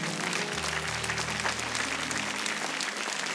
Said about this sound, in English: Can you give God a hand clap of praise?